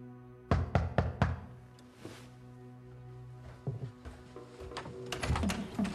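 A quick burst of four sharp, fairly loud knocks on a flat's door at night, followed after a pause by a few scattered softer thumps over a low steady hum.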